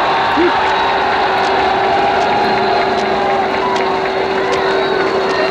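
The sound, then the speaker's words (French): A dense, loud roar of a cheering crowd fills the Champs-Élysées in Paris without pause under bright sun, with a steady droning tone, like a horn or engine, running underneath the whole time. “Je crois que mieux des paroles, l'enthousiasme de la foule vous donnera une idée exacte de ce qu'est aujourd'hui l'enthousiasme du peuple de Paris.”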